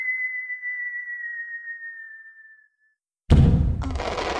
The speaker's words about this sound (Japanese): 花火。 日付が変わるまでのカウントダウンの花火か。もう少しでクリスマスだな。